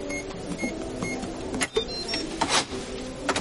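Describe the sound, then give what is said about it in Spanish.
A woman in a house opens a drawer, then unlocks and opens a safe: a run of mechanical clicks and clunks with a couple of sharper knocks and faint short high tones, over a steady background hum. “Abre un cajón y abre una caja fuerte.”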